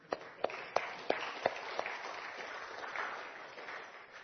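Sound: audience applauding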